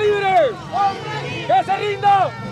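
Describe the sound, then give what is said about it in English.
A large crowd of anti-government protesters begins marching at a rally at a busy traffic circle in Managua, voices shouting and calling out over a steady loud hubbub, with several long rising-and-falling cries standing out above the din. “At a busy traffic circle in Managua, a large crowd of anti-government protesters begin marching at a recent rally.”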